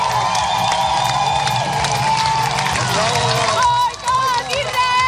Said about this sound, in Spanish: Pues esos eran los gritos y los vítores del centenar de activistas y manifestantes que se han reunido en el puerto de Barcelona para despedir a la expedición de 30 barcos que, como te digo, cruzará el mar Mediterráneo